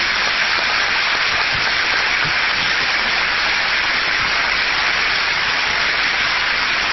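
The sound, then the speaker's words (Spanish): An audience applauds a vocal sextet steadily for about seven seconds, a dense, even wash of clapping that stays loud throughout without any voices over it. “que nos acompaña esta noche, y para que les pido un aplauso y un saludo.”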